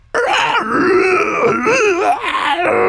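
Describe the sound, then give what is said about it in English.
A person voices a demonic scream for the creature Varnox screaming in the Infernal language: a loud, sustained, raspy guttural howl with wavering pitch that rises and falls for nearly three seconds, with no words. “And he lets out you don't understand it, but he's screaming in Infernal. What would that sound like?”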